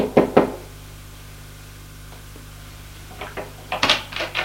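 knocking on a door

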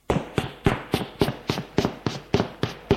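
footsteps going down stairs

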